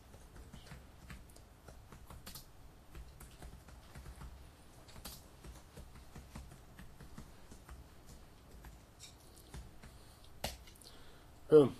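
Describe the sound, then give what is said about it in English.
Steady, irregular clicking of keys on a computer keyboard runs throughout, fairly quiet, with a slightly louder clack near the end and no voices. “No typing mistake.”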